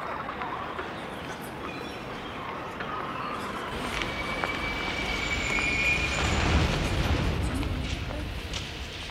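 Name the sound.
metro train running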